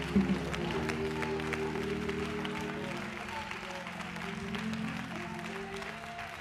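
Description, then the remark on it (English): A church audience, Bibles put down, claps unto the Lord in a steady, sustained wash of applause lasting several seconds, with low murmuring voices and sustained tones running underneath. “Would you put your Bibles down and clap unto the Lord?”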